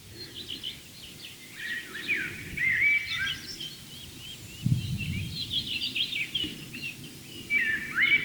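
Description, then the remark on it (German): A Eurasian blackbird sings a fluting, warbled song in several phrases over a low rumbling background, with a soft thin European robin singing faintly underneath. “Währenddessen genießt ihr die Amsel, das ganz zart unterlegt ist vom Rotkehlchen.”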